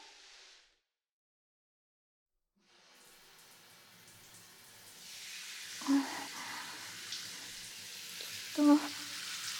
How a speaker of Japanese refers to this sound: そろそろシャワーで流しますね。